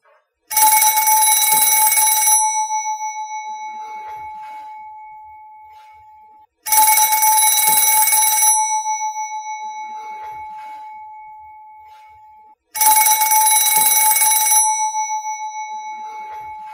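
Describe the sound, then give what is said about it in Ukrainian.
An old-fashioned telephone bell rings loudly three times, each harsh two-second jangle fading into a lingering metallic hum before the next ring about six seconds later. No voices. “Знов задзвонив телефон.”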